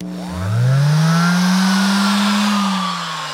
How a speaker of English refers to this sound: This is the throatier, put it in musical terms, hand sander.